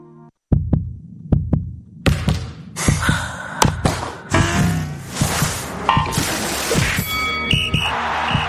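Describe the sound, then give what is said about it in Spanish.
A heartbeat sound effect in a Cadena Ser radio promo for the sports show El Larguero: deep double thumps beating steadily, at first alone, then continuing under a dense, loud wash of bright noise and swelling effects. “Cada noche en El Larguero siente el latido del deporte con Manu Carreño.”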